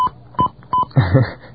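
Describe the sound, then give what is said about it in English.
Three short, evenly spaced touch-tone beeps from a telephone keypad as someone dials a 14-digit phone card code, steady mid-pitched tones, followed by a muffled, noisy stretch as the dialing carries on. “Now I dial my 14-digit code.”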